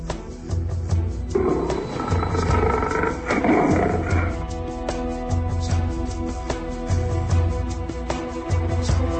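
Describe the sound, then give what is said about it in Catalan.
A lion caught in a hunter's net hanging in a tree in the jungle roars angrily and loudly, a long snarling roar followed by deep, rumbling growls that pulse at a steady rhythm, with no voices. “I cada vegada rugia més i més fort de tanta ràbia que acumulava, que tota la selva tremolava.”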